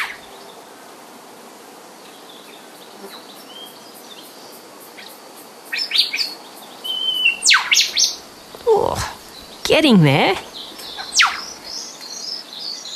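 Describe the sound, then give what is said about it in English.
A young whipbird in Dorrigo tries out its call as it learns it: several sharp, sweeping whistles and cracking whip-like notes in the second half, fairly loud over a quiet bush background, with a brief spoken remark. “had a whipbird young one who she says was learning how to call.”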